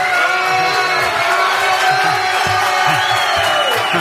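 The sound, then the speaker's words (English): A large crowd cheers loudly and steadily, a dense wall of overlapping voices with scattered shouts and whoops that holds without a break for about four seconds. “Hey, we got a crowd here today.”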